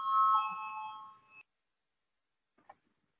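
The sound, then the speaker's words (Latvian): A bright multi-tone electronic bell chime rings clearly for over a second, then stops abruptly, leaving silence broken only by a faint brief click near the end. It is a parliament bell rung to call deputies to vote on an amendment proposal. “Lūdzu, zvanu, balsosim par 21. Deputāta Šteina iesniegto priekšlikumu.”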